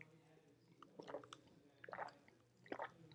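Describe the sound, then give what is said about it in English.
Someone swallows a drink of water in three wet, gulping bursts spaced about a second apart, each a short, fairly loud throaty squelch over a quiet low hum. “everybody says the I swallow”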